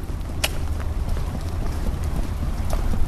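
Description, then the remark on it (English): Steady wet rain mixed with snow falling outdoors outside the Brampton Superior Courthouse in the morning, a dense low rumbling hiss with a few sharp splatting taps scattered through it; no voices. “It's a mix of snow and wet rain falling outside of the Brampton Superior Courthouse on the morning of Cheyenne's sentencing”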